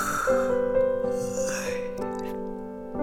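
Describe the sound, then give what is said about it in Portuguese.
A narrator imitates a butterfly's long, drawn-out yawn, a steady vocal sound with a gently sliding pitch that lasts about three seconds at moderate loudness. “Depois, a borboleta Antonieta foi voando para seu lado direito, voando, voando, voando, e deu outro bocejo.”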